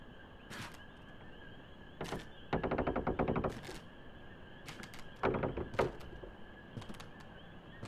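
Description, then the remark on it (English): A sticking door is forced open: a few sharp knocks, a rapid rattling judder as it's shoved, then heavy thuds and scattered clicks, with no voices. “The door's been sticking lately.”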